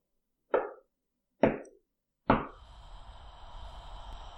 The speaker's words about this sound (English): Grumbling to himself, he walked to the dresser by the window. Just before he struck another match, he heard three taps against the glass.